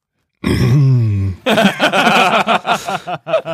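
A loud throat clearing: a drawn-out, low, gravelly voiced rasp, followed by a quick series of short, choppy vocal bursts. No words are spoken.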